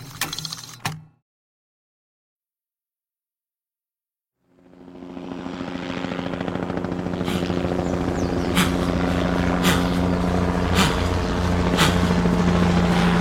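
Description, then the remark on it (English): After a brief knock and a few seconds of silence, a helicopter's rotor thrums in and builds to a loud, steady roar with rhythmic chopping pulses, continuing to the end. “Is that her? In the chopper?”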